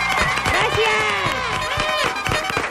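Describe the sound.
An audience applauding, a steady, loud wash of clapping that runs the whole time, with excited cheers and whoops from several voices rising over it.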